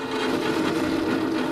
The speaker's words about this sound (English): She drags a chair into the kitchen.